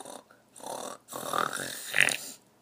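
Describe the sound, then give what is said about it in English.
A voice imitates the cat Wilbur snoring: a short snort, then two longer rasping, gurgling snores, the last one drawn out and rising, with brief pauses between them. “But after a moment, Wilbur began to snore again.”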